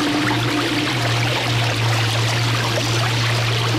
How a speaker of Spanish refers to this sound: Como un listón brillante que serpenteaba en el llano. Era Atoyatl, el río. Pronto su caída la puso en contacto con el agua y... le encantó esta cama de agua fresca.